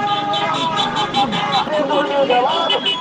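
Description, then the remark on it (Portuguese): Loud, continuous street din with car horns blaring and overlapping, tones rising and falling, over a busy backdrop of crowd noise and traffic, at a street protest with a sound truck and mass honking at the intersection of Tiradentes and Erval avenues. “Houve carro de som e buzinaço no cruzamento das avenidas Tiradentes e Erval.”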